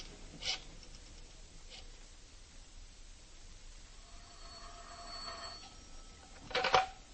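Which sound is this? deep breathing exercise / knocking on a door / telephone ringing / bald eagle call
telephone ringing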